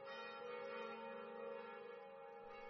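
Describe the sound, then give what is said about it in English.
Church bells ring at midnight in Madrid, with a sustained, shimmering wash of overlapping tones that hums steadily throughout, soft, with no voices present. “Miguel et sa sœur danced in the street at midnight as the church bells”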